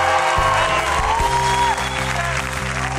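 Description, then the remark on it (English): Steady, dense clapping from an audience during a sermon runs loudly for the full three seconds, with sustained musical tones and a low bass line playing underneath; no one speaks. “Yo, I'm preaching better than you clapping, yo.”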